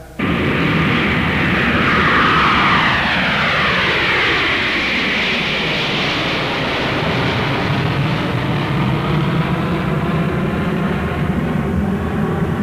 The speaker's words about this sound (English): And in recent age, man has reached the domain of the air with the jet aircraft.